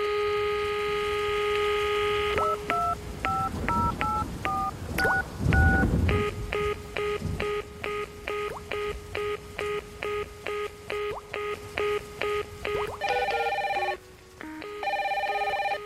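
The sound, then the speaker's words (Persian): Telephone dialing for a phone call into a programme: a steady tone, then a quick run of short beeping DTMF key presses, followed by rapid repeated pulsing tones and ringing, loud with no voices. “اما یک مورد تلفن.”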